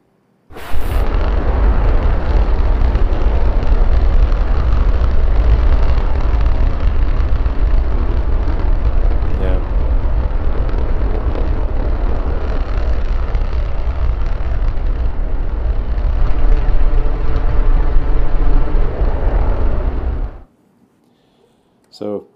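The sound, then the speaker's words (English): A Raptor 2 rocket engine fires in a continuous, thunderous roar with deep rumbling bass and crackling hiss, holding steady for about twenty seconds, its tone shifting slightly near the end before it abruptly cuts off. “So Raptor 2 is pretty sick, we've actually the peak thrust that we've operated Raptor 2 at it thus point is 247 tons, and so I'm confident that with some improvements we can get to a 250 ton operating point”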